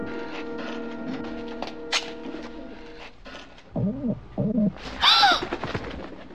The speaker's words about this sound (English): You see, that bird I just released is headed for the Pentagon!